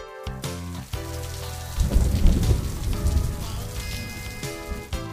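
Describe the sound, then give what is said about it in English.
Steady rain patters while a deep roll of thunder swells up midway and fades, all beneath a light, tuneful musical backing with no voices. “滴滴答答的雨声，加上轰隆隆的雷声，就像大自然在开音乐会。”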